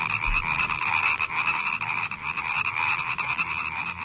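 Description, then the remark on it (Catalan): A dense chorus of many frogs croaking at once, their rapid, rattling calls overlapping into a loud, steady wall of sound with no pauses and no voices. “Quin so penseu que fan les granotes?”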